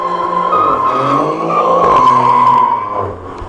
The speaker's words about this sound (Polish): Tak to brzmi z zewnątrz. 510 koni pod maską Alfa Romeo Giulia. Silnik V6, 2,8 litra.